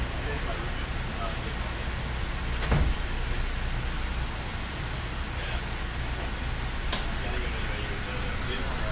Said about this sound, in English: The doors are closing. Please hold on.